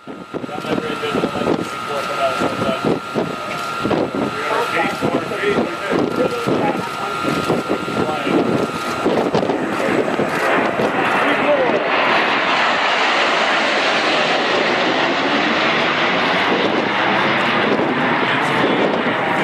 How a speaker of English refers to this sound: That was the sound of a Russian Su-24 as it flew past the USS Ross in the Black Sea this past Saturday. The U.S. Navy ship was sailing in international waters.